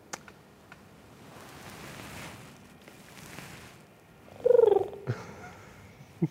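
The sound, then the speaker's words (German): A voice imitates a pigeon's coo: one short, low, warbling burst that rises out of soft rumbling background noise, followed by a couple of faint clicks. “Ich habe Taubengeräusche gemacht.”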